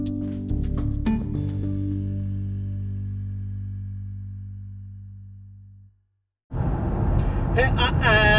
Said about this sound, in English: In the car on the way into Aberdeen.